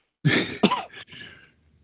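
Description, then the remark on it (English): Two sharp coughs in quick succession, then a rougher rasp of throat clearing that trails off. Fairly loud, with no talking. “let me let you finish coughing and all that first.”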